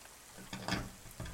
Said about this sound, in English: It sounds like the rain has finally stopped falling so heavily.